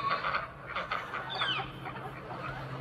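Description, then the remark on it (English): Silkie chickens cluck in short, repeated bursts, with a few higher warbling notes mixed in over a low, steady background hum outdoors on a morning under a blue sky. “Hi, Silky Chickens.”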